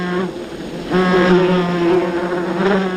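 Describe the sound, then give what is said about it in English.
Wasps buzz steadily around a nest, a continuous droning hum whose pitch wavers and swells slightly as insects move about, with no voices present. “Oropendulas also favor trees that bear large nests of wasps, whose stinging attacks deter both potential nest predators and parasitic insects.”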